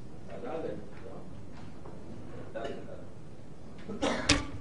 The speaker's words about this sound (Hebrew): דלת?